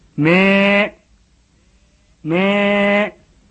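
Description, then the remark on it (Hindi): A lost sheep bleats twice in a cold, dark night, each call a loud, wavering baa lasting under a second, separated by a short quiet pause, heard alone with no talking. “मैं सुने के लिए कुछ देर रुका पर अंधेरी रात में वही का अपनी आवाज सुनाई पड़ी।”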